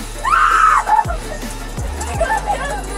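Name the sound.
woman screaming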